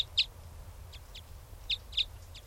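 Short, sharp chirps of a wild bird ring out several times in an irregular pattern, clear above a low, rumbling background hum, with no one speaking.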